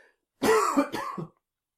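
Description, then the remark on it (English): A single throat-clearing of a dry throat after a sip of tea, a rough, voiced rasp broken into three or four quick pulses lasting about a second, followed by silence; no speech. “Now, I'm just going to take a sip of tea, a bit of a dry throat, excuse me.”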